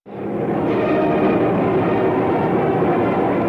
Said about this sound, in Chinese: 战机轰鸣，叱咤蓝天。就在炮兵部队接受检阅时，人民空军的飞机也准时飞临天安门广场上空。这其中就包括当时我军最先进的米格15歼击机。